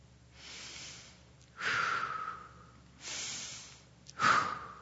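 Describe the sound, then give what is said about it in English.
Loud, deliberate breathing: two slow cycles of air drawn in and pushed out, each breath a rushing, slightly whistly hiss, with no talking. “Unless you have a respiratory issue or maybe a bad cold, you're breathing and not even thinking about it.”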